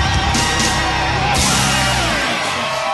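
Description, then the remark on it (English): A big crowd cheers wildly, with yells and whoops blending into a loud, steady roar that fills the whole three seconds without letting up. “And the crowd goes wild with delirious joy.”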